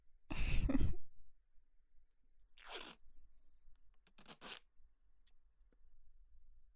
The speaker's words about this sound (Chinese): 对了，以防您做出什么违规的举动，所以要先用胶带把你的嘴巴封起来呀。